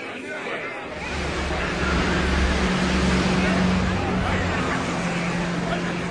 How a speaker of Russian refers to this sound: За углом погромыхивал мотором стоявший на месте грузовик, похожий на огромного ежа, ибо его совсем закрывали торчащие во все стороны штыки винтовок.